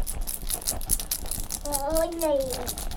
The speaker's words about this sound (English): Keys.